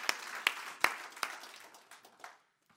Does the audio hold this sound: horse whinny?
no